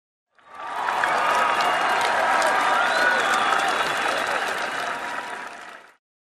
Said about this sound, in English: A torrent of applause and shouts of joy come from the ramparts.